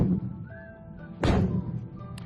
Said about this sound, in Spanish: Así suenan los disparos que hace una fragata como la Cristóbal Colón, que entró en servicio en octubre de 2012, tecnológicamente lo más avanzado de la Armada.